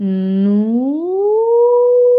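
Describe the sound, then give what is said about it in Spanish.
A single hummed tone on a nasal N sound, steady and low at first, then sliding smoothly upward in pitch as a glissando and holding high. It's loud and continuous, with a nasal, buzzy quality and no speech. “Eso sería un glisando, ¿vale?”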